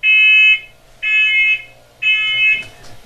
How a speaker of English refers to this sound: A warning here, the detectors beep loudly when tested.